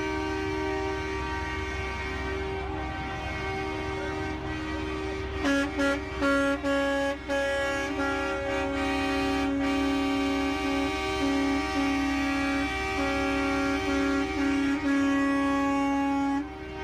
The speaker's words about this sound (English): So yes, a lot of honking of horns, but it's a remarkable scene.